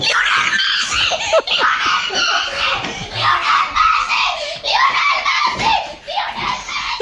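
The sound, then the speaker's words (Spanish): A child screams excitedly over finding a Messi World Cup sticker, high-pitched and sustained, with breathless laughter and squeals breaking through in a continuous burst of joy. “Yo no sé si vosotros gritabais tanto.”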